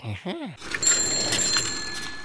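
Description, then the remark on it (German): A short squeaky, pitch-sliding vocal sound gives way to a bicycle bell ringing, its bright metallic tones shimmering and lingering over a noisy, rustling background. “Stimmt. Mit dem Fahrrad bin ich gekommen.”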